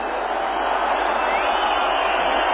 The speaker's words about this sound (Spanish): De nuevo, como escuchan, aprecian los abucheos en esta ocasión con esa referencia que hace Usía a Jesús Caldera.